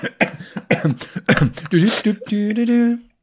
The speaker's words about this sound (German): Hustet so zwischendurch.